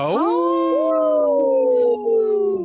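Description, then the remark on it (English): A person on a radio show gives a howl for the wolves: a single loud, wolf-like howl that swoops up quickly, then holds a long, steady note that slowly sinks in pitch over almost three seconds. “Hey, let's give a big howl.”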